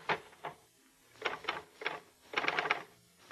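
Bursts of mechanical keystrokes from a portable typewriter with a sheet of paper inserted, held in a lap to deaden the noise and vibration, clattering in short irregular clusters with brief pauses between, fairly soft, as if muffled. No voices.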